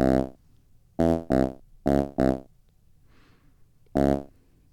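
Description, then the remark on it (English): Six loud, buzzy bass notes from a Pocket Operator pocket synthesizer play in a short, syncopated pattern, several in quick pairs, with brief silences and a faint hiss between them and no talking. “Okay, so now we probably need some bass.”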